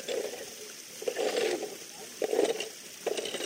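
An 82-year-old man scrapes gravel and sand over a perforated metal sheet with 3.5 mm holes, wedged between larger stones in a stream that washes over it. He is searching for green-gleaming stones. About four crunchy, rasping strokes at uneven intervals over a steady watery hiss.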